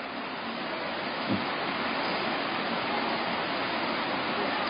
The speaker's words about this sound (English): You're just going to have to listen closely, and especially based on the rain hitting the tent.